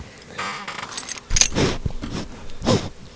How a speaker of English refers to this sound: That's her sniffing the mic. Her dog tags.